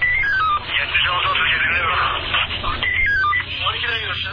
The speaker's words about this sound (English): Wasim digs out his phone from his pocket to find a text.